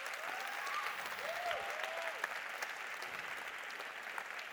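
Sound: audience applauding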